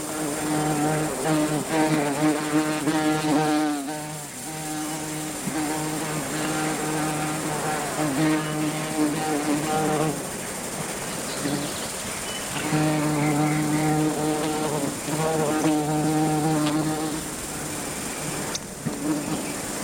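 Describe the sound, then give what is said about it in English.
A rusty-patched bumblebee buzzes, a low, steady drone that swells louder in two stretches and eases between them, with no talking. “And hear the sound of the rusty-patched bumblebee.”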